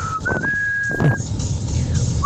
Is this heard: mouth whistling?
yes